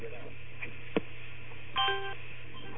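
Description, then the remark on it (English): A sharp click, then a short burst of telephone dialing tones, heard faintly over a steady low hum on a narrow, phone-like line, as a caller hangs up and calls back to try to clear an echo on the line. “I'll cut off and call again.”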